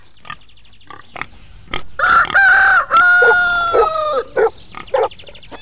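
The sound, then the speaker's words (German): A rooster crows loudly, one long drawn-out cock-a-doodle-doo, framed by short clucks and squawks before and after; no one speaks. “Gückel. Hund, Katze, Schwein, Kuh und wie sie alle heißen.”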